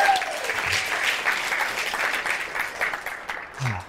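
An audience breaks into sustained applause, dense clapping filling the whole stretch at a steady, fairly loud level, with a few brief low voice sounds poking through near the start and end.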